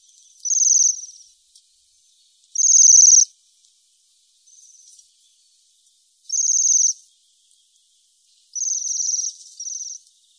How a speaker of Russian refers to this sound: Уж если мы заговорили о свиристелях, об этих дивной красоты птицах, то напомним, какой они издают звук, который так и хочется назвать свиристением.